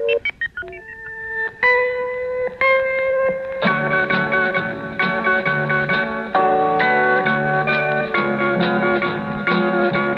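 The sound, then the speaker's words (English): A sequence of electronic tones identifying the Monitor radio network beacon: a few clipped beeps, then sustained pitched tones stepping through a repeating melodic pattern, steady and fairly loud with no voices. “The next tone you'll hear, tones I should say, are the ones that unmistakably identify the monitor beacon.”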